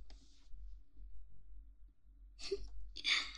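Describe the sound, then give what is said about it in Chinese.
A person yawning: a short breathy exhale at the start, then after a quiet pause two louder, drawn-out airy breaths over a low background rumble. “你从走路到现在打了有八个哈欠了吧？”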